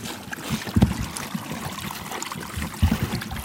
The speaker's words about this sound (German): Ja, jetzt gibt's Wasser. Und jetzt hören wir doch mal, wie die da schlabbern.